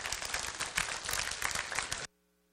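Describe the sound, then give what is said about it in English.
An audience breaks into loud, dense applause, many hands clapping at once in a steady roar for about two seconds before it stops abruptly. “If you're going to clap, don't mess around.”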